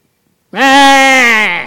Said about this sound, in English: And them sheep behind us. Y'all ever heard the sheep?